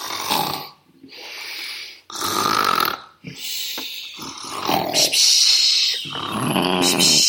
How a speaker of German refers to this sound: Nach einer Stunde anstrengender Wanderung kommen sie bei einer großen Höhle an. Aus der Höhle dringt ein lautes Schnarchen.